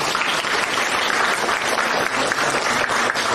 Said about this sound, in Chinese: 不鼓掌啊！